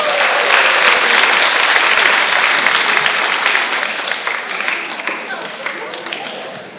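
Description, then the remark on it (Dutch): An audience applauds a children's choir loudly and steadily, a dense wash of many hands clapping that stays strong for several seconds, then gradually thins and fades toward the end. “Applaus voor het kinderkoor.”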